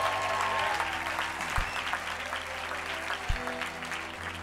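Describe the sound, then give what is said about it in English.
Steady applause from an audience fills the whole clip, a dense wash of many hands clapping at an even loudness, with a low hum running underneath and no voices rising above it. “In fact, give them a great round of applause.”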